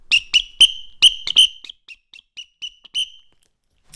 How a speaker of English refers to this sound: A whistle? A whistle. Here. Give us a little tap tap on the whistle.